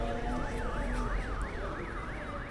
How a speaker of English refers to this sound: One of the cars is making this ambulance noise that you can hear.